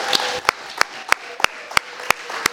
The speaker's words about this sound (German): Und wieder den Applaus halten, bis sie auf der Bühne angekommen ist.